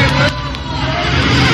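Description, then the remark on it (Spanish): A grey car's CV joint and engine whine loudly at maximum revs as the vehicle, its front destroyed, tries to escape, a steady, dense mechanical roar that holds without a break, with faint crowd murmur underneath. “Ahí ustedes escuchaban la homocinética del vehículo a máxima revolución por minuto, el motor más que todo, para tratar de escapar.”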